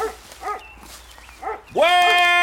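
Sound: dogs barking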